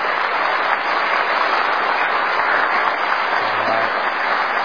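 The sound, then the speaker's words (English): Steady audience applause for high school and college graduates, a dense, even wash of many hands clapping at a constant loudness for several seconds, with no voices standing out. “So let's give all of them a round of applause.”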